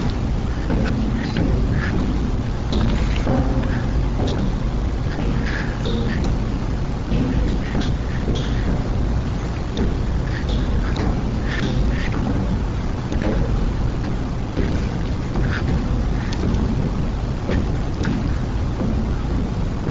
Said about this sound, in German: selbst geschriebenen Software entfernte Rogalski die Stimme aus der ca. 13-minütigen Rede. Übrig blieb nur Stille. Die dumpf schlagenden Geräusche, die man hört, manche nennen sie Trommeln des Krieges, sind die Echos von Bushs Stimme im Weißen Haus.